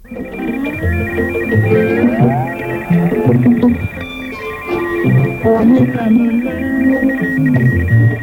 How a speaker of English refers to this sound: We purchased a unit, set it up, and for a demonstration, I found an African station on 60 metres with a radio teletype station on top of it.